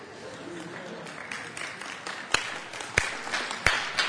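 Three loud, sharp claps ring out at an even, deliberate pace, standing out above a soft background of crowd murmur and scattered applause.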